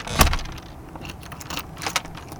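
Metallic jingling as a man scoops up loose change: a sharp clatter at the start, then a few lighter clinks and rattles, with no talking.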